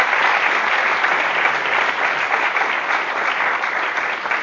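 Sustained applause from an audience welcoming a speaker, a dense steady wash of many hands clapping at fairly even loudness for several seconds, with no voices standing out.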